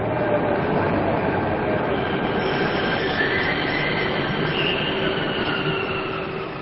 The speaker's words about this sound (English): A group of students stands at a platform, craning their necks to catch a glimpse of the train as it streams in.